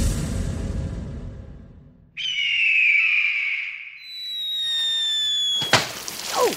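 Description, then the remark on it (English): A cartoonish sound effect of a bald eagle flying and dropping a large water balloon on a porcupine: a low rumble gives way to a shrill, sustained whistling tone, then a sudden loud burst and splash at the end. No one speaks. “All right, here it is, the sound of a bald eagle flying and dropping a water balloon on a porcupine.”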